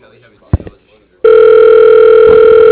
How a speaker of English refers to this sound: The beep, like, voicemail, and then it sent me to ringing.